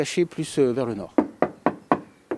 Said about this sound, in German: Weiter hinten im Museumsgarten klopft Nicolas Dumont auf den schwarz gestrichenen Bauch eines kleinen Flugzeugs